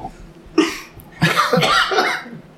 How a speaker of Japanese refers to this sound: 咳したくないと思えばなるほど、むせ出す。